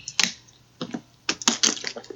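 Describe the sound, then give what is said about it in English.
A plastic water bottle crinkles and crackles in several sharp, bright bursts, irregularly spaced, with short quiet gaps between. No one speaks. “So now I got this bottle of water here, and I didn't put it in the glass, so if you feel the crumbly bottle water sounds, I'm sorry.”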